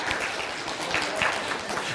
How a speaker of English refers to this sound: Yay, we just want to clap. Thank you.